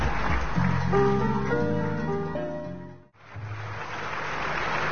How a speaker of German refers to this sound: Du hast wirklich gut Applaus geerntet dort